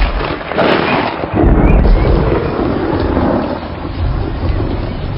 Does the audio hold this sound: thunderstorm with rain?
yes